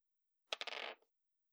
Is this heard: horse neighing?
no